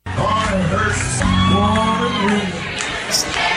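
A bar crowd cheers and whoops at a live performance, with overlapping shouts and yells forming a loud, steady roar that holds throughout.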